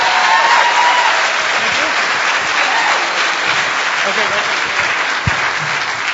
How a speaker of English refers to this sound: First, I'd like to introduce the Dark Tangent, the gentleman who organizes, runs, and makes sure things go smoothly at the convention. Definitely a round of applause for this gentleman.